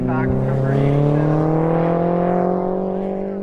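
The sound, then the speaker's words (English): A race car engine accelerates hard off the start line at an autocross after the go signal, shifting into second gear, its loud, buzzing drone climbing steadily in pitch for a few seconds, with layered harmonic tones and no talking. “So you start off the line, the guy gives you the go signal, and just hit the gas. First thing is to get it into second gear.”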